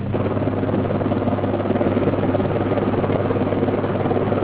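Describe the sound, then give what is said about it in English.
A continuous, steady rotor drone of British Army helicopters hovering in the sky over the Ormo Bridge, loud and unbroken throughout, with a low rumbling hum and no voices. “British Army helicopters hovered in the sky over the Ormo Bridge as frantic efforts were made to find a last-minute solution.”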